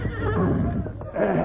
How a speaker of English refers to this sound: A horse here. Put you in the saddle.